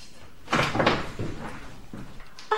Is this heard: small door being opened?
yes